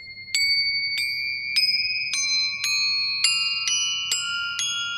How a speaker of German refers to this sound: Jetzt haben wir hier eine Glocke. Hier auch aus Tibet. Also Crotales, die klingen so ein bisschen exotischer und länger als das Glockenspiel, aber ein bisschen ähnlich.